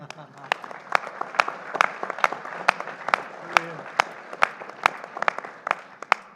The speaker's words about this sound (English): And I'd like you all to give yourselves a round of applause.